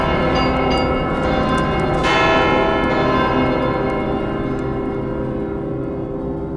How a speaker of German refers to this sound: Hör das Läuten von den Glocken, Eisenglocken. Was für ernsthafte Gedanken ruft ihr Gleichklang da zusammen?